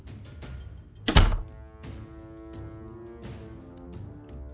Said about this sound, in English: could you just close the door for me, please? Yep.